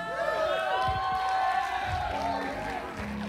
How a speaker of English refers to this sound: You know the people that are clapping right now? The people that have been praying. The people that have been winning souls.